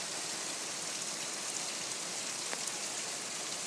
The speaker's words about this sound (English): This is a nice Florida storm for you. And we do really need this rain.